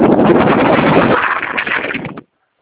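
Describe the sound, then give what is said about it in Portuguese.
Heavy wind roars and buffets a phone microphone during a phone call in loud, rumbling bursts for about two seconds, easing slightly before cutting off abruptly into silence. “Difícil, É porque tá com muito vento, eu não tô conseguindo escutar o senhor.”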